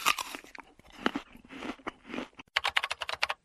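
A crisp bite into a fresh apple followed by steady crunchy chewing, then a quick run of sharp, evenly spaced crunches near the end, loud with no voices.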